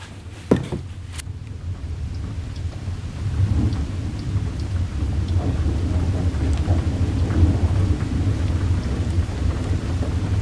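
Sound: rain and thunder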